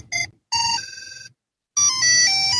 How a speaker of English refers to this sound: It makes different cell phone rings. And if you put the piece of plastic back in, then it'll shut the battery off so you can save the battery.